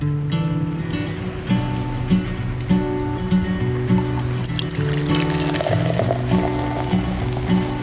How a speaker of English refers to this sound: So with that, pour yourself a cup and let's get to it.